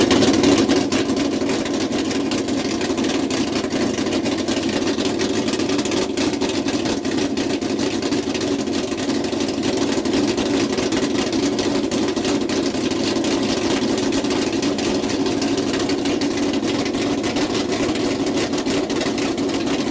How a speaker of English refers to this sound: Have we got any more engine noises? Let's have a look. Yeah, I've got engine noises. I'll just go to the folder. This one here is a sort of truck thing. Yeah. At Bonneville, Okay.